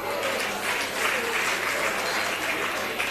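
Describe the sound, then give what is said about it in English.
An audience claps steadily for about three seconds, a dense, even wash of many hands at a consistent loudness, with no clear voices on top. “Now, I know you are clapping, that's very good.”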